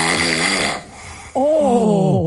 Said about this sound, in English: that's unique because it's snoring on the way in and out. Like, normally, it's kind of just one way. He's breathing in and breathing out. He's snoring. How do you do that?